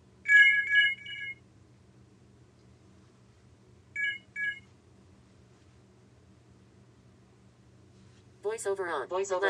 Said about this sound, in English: So the delay was a little start there, but we get the voiceover effect.